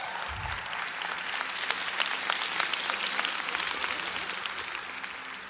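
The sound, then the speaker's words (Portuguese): A large audience applauds steadily, a dense wash of clapping hands that stays loud and sustained throughout, with a reverberant quality and no speech over it. “Eu achei que vocês iam aplaudir esse vídeo.”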